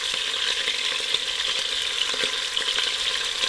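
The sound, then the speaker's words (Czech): Steady, crackling sizzle of Czech beef roulades ('ptáčci') searing in melted lard in a pressure cooker, being browned golden on every side, loud, with small pops and spatters throughout and no voices. “Na tom sádle rozkvařeném zatáhneme ty ptáčky, aby maso bylo dozlatová z každé strany.”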